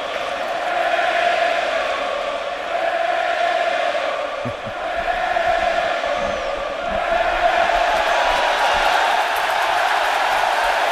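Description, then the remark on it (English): A standing-room-only crowd at a 2013 Pirates baseball game jeers pitcher Johnny Cueto in a dense, sustained roar that stays loud for the whole stretch, dipping only briefly midway before swelling again. “Well, the standing room only crowd trying to get under Johnny Cueto's skin, and they might be.”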